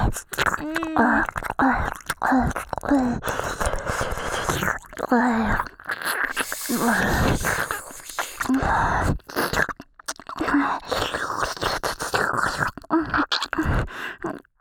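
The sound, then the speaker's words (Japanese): Continuous wet ear-licking mouth sounds from an ASMR sample, with slurps, smacks and soft sticky clicks filling the stereo field, broken now and then by faint breathy murmurs. “なんかこう自分の耳なめなのにこう聞き入って黙ってしまいますね。”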